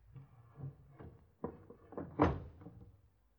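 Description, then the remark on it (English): A series of wooden knocks and scrapes builds to a sharp clunk, like a door bolt being slid shut, followed by a faint rattle as it settles. “Go bolt the door.”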